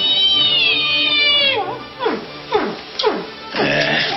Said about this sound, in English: Hear something? Sounds like a whale.